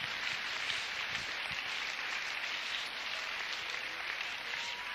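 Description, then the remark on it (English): An audience claps for Jesus, a steady, dense, continuous wash of many hands with a hiss-like texture and even loudness throughout, no voices standing out. “Come on, clap for Jesus.”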